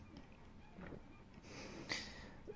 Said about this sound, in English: Sorry, I always clear my throat before I do these videos, but for some reason, every time I lie down, I always have this problem.